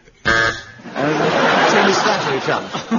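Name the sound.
game show buzzer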